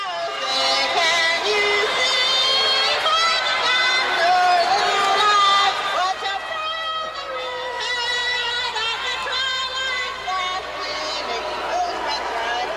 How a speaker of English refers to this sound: As you can tell, the crowd was booing her, but at least she was screaming it, but the tone was fairly close. I mean, it was very fast and all that.